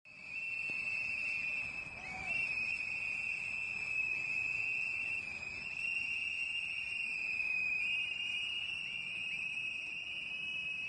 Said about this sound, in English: You're listening to the sounds of activists blowing whistles outside of Alexandria Detention Center in support of yourself, Jeremy, and Chelsea locked up in that jail, and Julian Assange in the UK.